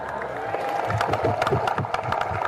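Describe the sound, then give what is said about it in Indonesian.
A crowd claps and murmurs as a speaker announces a rise in allowances, dense overlapping applause sustained for a couple of seconds, moderately loud, with voices mixed into the clapping. “Jangan tepuk tangan dulu.”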